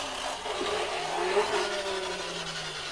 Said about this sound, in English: Goodness, that's a loud delivery truck, isn't it?